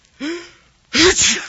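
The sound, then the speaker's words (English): A single loud sneeze: a rising, voiced 'ah' wind-up, then a brief pause, then a sharp, breathy 'choo' burst. Nobody speaks. “If the sound you're about to hear sounds like you right now, we're sorry.”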